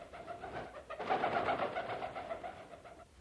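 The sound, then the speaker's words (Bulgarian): A wild duck calls at night by a lake as it returns to its flock in the reeds to roost: a steady run of quick, nasal, mid-pitched notes that swell louder after the first second, then carry on evenly with no voices. “Дива патица беше, прибра се при другите да нощува.”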